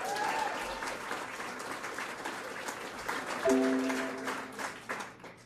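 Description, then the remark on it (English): A comedy club audience at Yuk Yucks breaks into sustained applause at the start of a stand-up set, a dense wash of clapping that swells briefly midway, with a few whoops rising above it before it starts to thin out. “How are we all doing, ladies and gentlemen? By a round of applause.”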